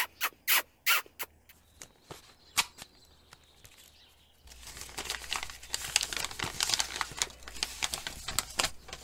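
A paper letter is unfolded: a handful of sharp, separate crackles, then a steady, louder crinkling and rustling of paper that continues to the end. No one speaks.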